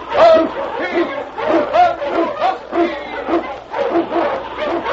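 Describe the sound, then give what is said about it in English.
A pack of sled dogs, led by King, an Eskimo lead dog, barking and yelping together on the trail through storm and snow in the Yukon, loud, with overlapping excited barks forming a continuous, chaotic chorus throughout. “King, the swiftest and strongest of Eskimo lead dogs, blazes the trail through storm and snow for Sergeant Preston as he meets the challenge of the Yukon.”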